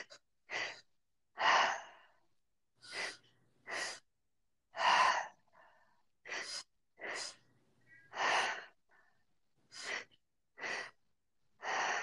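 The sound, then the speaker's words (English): Audible breathing: a series of short, forceful inhales and exhales, about a dozen breaths in quick succession with brief pauses between, and no talking; a three-part breath, inhaling into the low belly and chest, then exhaling. “And then we'll begin the three-part breath as you're ready, taking that inhale into the low belly, chest, exhale.”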